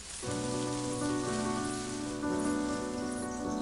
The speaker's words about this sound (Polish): O, czy mi się tylko zdaje? Czy krzew zaczął się ruszać i gałęziami szumieć?